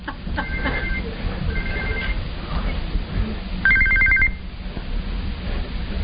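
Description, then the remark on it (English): A telephone rings in short electronic trills, two quieter bursts followed by a louder, brighter ring, over a steady background murmur. “Probably best not to answer.”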